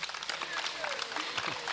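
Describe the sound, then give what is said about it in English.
Audience applause crackles steadily across the whole moment at a concert in an amphitheater after the rain has stopped, a dense wash of many hands clapping, mixed with murmuring crowd voices. “You will note that no one sitting in a chair applauded.”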